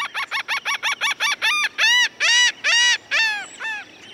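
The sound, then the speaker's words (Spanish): A laughing gull calls loudly in a rapid series of short nasal notes that slow into longer, drawn-out laughing cries, with no voices or other sounds. “Las costas casi siempre tienen algunas gaviotas, como esta gaviota raidora.”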